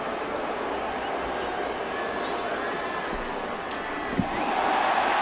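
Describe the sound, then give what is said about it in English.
A large crowd roars and cheers wildly in a dense, continuous wall of noise that swells louder toward the end, with a brief thud near the close. “Crowd goes nuts.”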